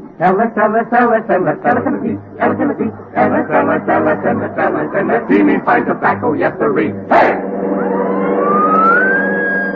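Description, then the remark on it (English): Several seconds of talking, then a police car siren starts up, its single wail climbing steadily in pitch and holding strong through the final couple of seconds. “get the police car.”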